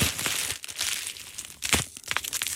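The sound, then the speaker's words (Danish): Bubble wrap with fairly large, hard-to-pop bubbles, the kind found in shipping boxes, crinkles steadily as it is squeezed, with a few sharp, bright pops breaking through the rustling plastic. No one speaks. “Der er lidt større bobler i den her.”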